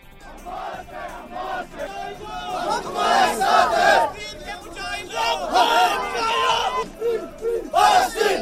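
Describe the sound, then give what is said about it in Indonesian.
Thousands of people in a religious procession marking the start of Muharram in Srinagar, Indian-administered Kashmir, shout in unison along the streets, chanting slogans condemning Israel and America in loud, rhythmic bursts that rise and fall as many voices overlap in a continuous roar. “Teriakan kecaman terhadap Israel dan Amerika berkumandang di sepanjang jalan-jalan yang dilalui warga.”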